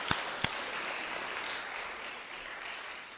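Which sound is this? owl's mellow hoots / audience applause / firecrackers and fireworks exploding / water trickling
audience applause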